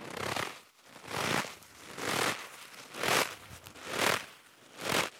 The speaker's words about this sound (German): Und ich muss das jetzt an meinen Mund ranführen, wo das Headset dran klebt. Ich hoffe, Sie hören das schön, also Schritte im Schnee.